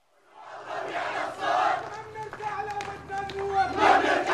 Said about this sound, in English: In the streets of Kiswe, the Arab League monitors have immediately attracted a crowd of protesters. I've just heard someone shouting, "People of Kiswe, what are you waiting for? The monitors are here!"